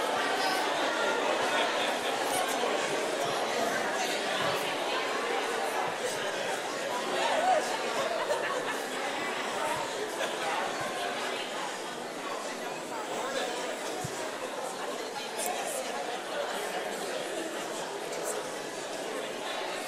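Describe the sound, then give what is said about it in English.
A large church audience chatters and greets one another during a morning service, a steady, dense murmur of many overlapping voices with no single speaker standing out, continuous for the whole stretch. “But take a moment right now to turn and greet those around you and welcome everybody to church this morning, please.”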